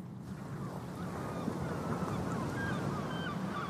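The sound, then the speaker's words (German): A large flock of returning geese calling and honking continuously, many overlapping voices speckling a grey sky, over a steady low rumble of wind. “Die Vögel kommen zurück.”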